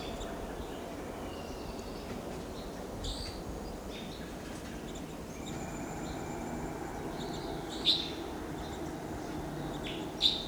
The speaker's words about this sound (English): Four to five. Wild birds are together at the top of a lodgepole pine here. 4 to 5.